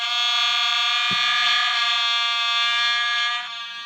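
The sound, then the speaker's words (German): A vuvuzela horn sound, played from a button on a sound machine, blares one loud, unbroken, buzzy note for about four seconds, holding steady in pitch before easing off slightly at the very end. “Was denn? eine Vuvuzela.”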